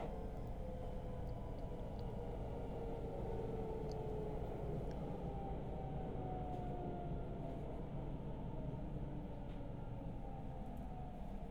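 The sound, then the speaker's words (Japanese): A train rolls steadily along the rails, a dense, continuous low rumble with a faint metallic whine drifting through it, holding an even loudness throughout with no voices. “え、この電車最初は高速道路になるはずだったの？”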